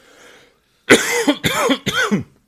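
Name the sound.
coughing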